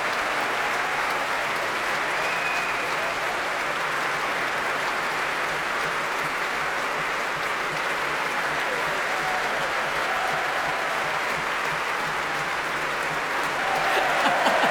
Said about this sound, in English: They do love him. They won't stand up. He keeps on gesturing to them with his big, long, lanky limbs. Please stand up. But they won't. They're too busy cheering him.